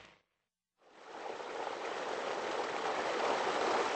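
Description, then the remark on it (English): After a brief burst and a short pause, a new water pump gushes water out in a steady, loud rush, feeding a small plot of rice and wheat in the village of Makrona Kalan. It builds slightly and keeps flowing with no voices. “A new water pump churns away, feeding their small plot of rice and wheat.”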